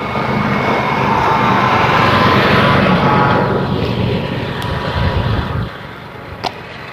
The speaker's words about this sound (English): Sure. It's one of those utility garden truck things. Not sure what he was doing, obviously working somewhere in the neighborhood.